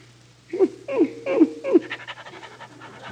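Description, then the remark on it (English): A St. Bernard dog pants heavily in four quick, rhythmic bursts, followed by softer, rapid breathy huffs that trail off, with a low steady hum underneath. “Oh, you got a St. Bernard. Nice doggy.”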